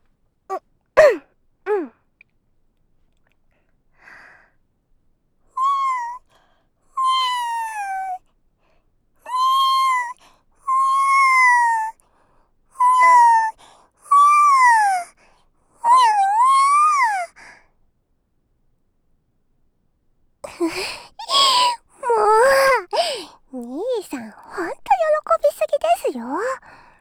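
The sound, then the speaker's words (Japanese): A person imitates a kitten with a string of drawn-out, wavering meows, fairly loud, followed by a quicker, more excited run of mews. No actual talking. “兄弟だったら妹の猫の真似とかキモいで一緒ですからね。”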